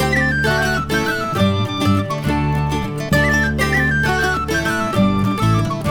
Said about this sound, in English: To pass the time and to ease my contentment, I took out my whistle and I played me a tune.